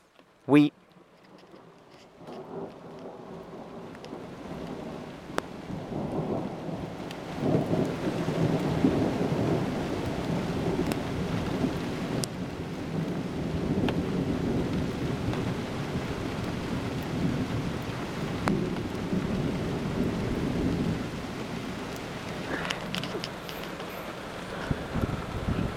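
A thunderstorm with steady rain and deep, rolling thunder that swells after a few seconds and rumbles on continuously, with a sharp crack near the start.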